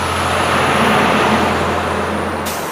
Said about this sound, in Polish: Droga wojewódzka nr 431, która wchodzi do Mosiny, jest i tak zakorkowana bardzo mocno.